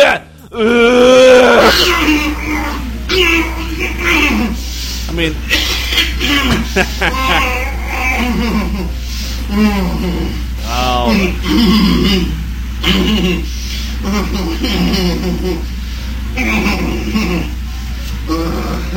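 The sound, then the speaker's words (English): A man's voice imitates drawn-out grunts and groans during sex, then rough coughing and hacking, loud, with brief spoken words in between. “First of all, that grunting is hot, and then, you know, you start coughing and hacking up a lung.”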